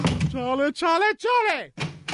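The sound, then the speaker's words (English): A door creaks open and shut several times in quick succession, its hinge squeal rising and bending in pitch between short knocks and thumps, fairly loud. “Well, please time, stop opening and closing the door.”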